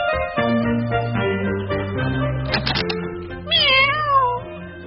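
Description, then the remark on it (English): A pregnant cat named Fifi, brought to the vet, meows once, a clear, wavering cry near the end, over steady instrumental music that plays throughout. “Leave your cat with me”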